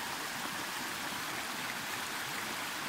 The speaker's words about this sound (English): Let's just get a good shot of the creek here. Yeah, that's very full. This is very full. It's not usually this full.